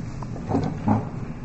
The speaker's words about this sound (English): Sorry about that. I want to close those doors for a second.